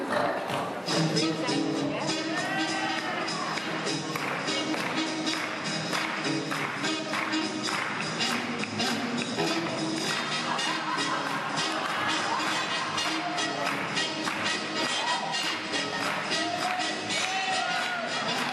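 Lively music plays for the whole stretch while an audience of mostly dancers at a dance camp claps and cheers behind the camera during a Lindy Hop Jack and Jill dance competition, a steady wash of hand claps and voices mixed with the beat.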